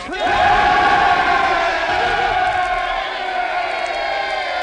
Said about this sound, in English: It gives me the greatest pleasure to herewith introduce our noble, fearless, kindly ruler, King Rupert II. Large cheer.